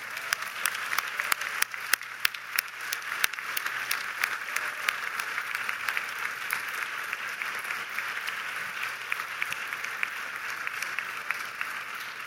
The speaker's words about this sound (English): We're really honored to have here tonight with us someone that I help you now with a very strong applause to call to the stage, to ….